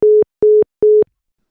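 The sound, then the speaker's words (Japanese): A phone busy tone after a call is hung up by someone in a cinema: three short, identical electronic beeps at a steady pulsing rhythm, loud and clear with no other sound, then silence. “電話を切るのは少しやりすぎじゃない？”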